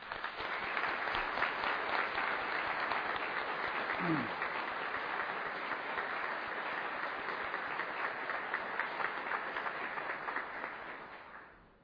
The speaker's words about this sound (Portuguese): Gostaria de uma salva de palmas para esses policiais militares.